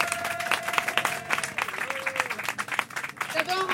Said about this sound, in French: je vais vous demander un tonnerre d'applaudissements pour les trois intervenants qui sont là